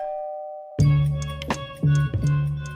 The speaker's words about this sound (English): He rings the doorbell.